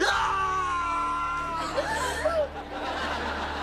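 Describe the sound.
Old man Cropsy lets out a long, strained scream that wavers and breaks into shaky cries as his foot is caught in a broken floorboard, heard over a steady low rumble of thunder on a stormy night, with a bulldozer bearing down on his cabin.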